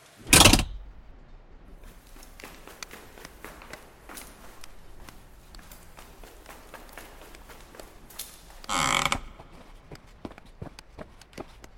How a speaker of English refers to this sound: smash the door handle down, and you hear the crack of a break in the lock. And rips the door open for you to pass through.